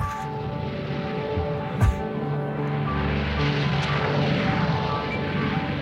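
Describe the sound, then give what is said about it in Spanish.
A storm evoked in music, with a pedal note from inside the piano: a low, continuous rumble rolls steadily throughout, a thick droning roar with a brief deeper thud partway through, layered under sustained tonal hums and with no one speaking. “Está generando una tormenta. Y se escucha de fondo.”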